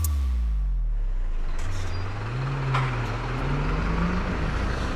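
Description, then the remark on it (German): Steady city street traffic in the Bahnhofsviertel station district, on Taunusstraße, before 9 in the morning, recorded while walking to work: a heavy vehicle's low engine rumble shifting pitch as it moves, a brief hiss like an air brake, and a constant roadway wash underneath; no one speaks. “Gerade live on tape quasi aus dem Bahnhofsviertel. Denn ich laufe hier gerade zur Arbeit.”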